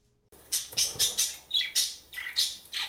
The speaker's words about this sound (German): Was ist das? Das ist ein Wellensittich.